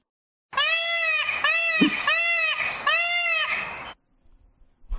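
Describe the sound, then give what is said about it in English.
A peacock call sound effect: four loud, wailing, nasal cries in quick succession, each with a slight rising-and-falling pitch, followed by near silence. “It's supposed to be a peacock.”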